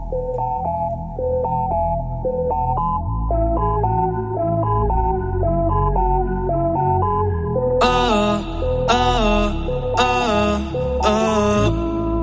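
A Latin pop song plays at a steady, full volume: a bright repeating melody over deep bass, with crisp percussion hits kicking in during the second half. No voices are heard.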